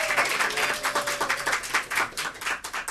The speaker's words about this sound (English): Welcome to the 3rd annual Comedy Forecast and Friends live from DragonCon, and you're here on a Sunday night, still moving around. Give yourself some applause, please.